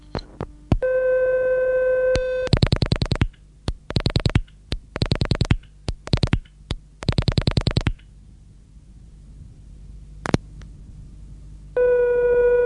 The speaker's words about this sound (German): Eben wie zum Beispiel aus einem Summton ein Telefon-Cha-Cha-Cha zu machen. Und der ist dann auch im Radio gelaufen, im In- und Ausland. Und so hat es dort mal getönt.